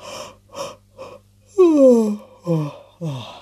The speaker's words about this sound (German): Sie gähnt, denn sie ist müde. Sehr müde.